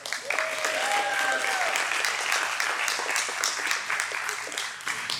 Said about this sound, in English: So without further ado, would you give a great big round of applause to our presenter this morning